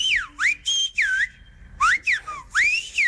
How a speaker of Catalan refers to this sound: Aquella nit, ja a Cobro, el jove va entendre que el xiulet gomer no era només una manera diferent de parlar, sinó que també és una eina per sobreviure, una forma de cuidar-se els uns als altres en una terra complicada.